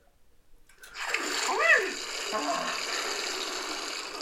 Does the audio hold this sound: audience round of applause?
no